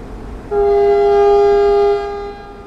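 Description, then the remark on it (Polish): A railbus at Chrebenne station gives one long, steady, loud horn blast lasting over a second, above a low rumbling engine idle that continues after the horn stops. “Wysiedliśmy z pociągu na stacji Chrebenne, mamy ze sobą rowery.”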